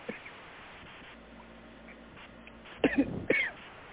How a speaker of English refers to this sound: excuse me, I'm coughing.